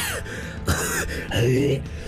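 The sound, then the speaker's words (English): A voice makes harsh, hacking coughs and strained retching noises while trying to cough up a hairball: a few rough bursts over about two seconds, fairly loud. “I don't want to do a hairball right now.”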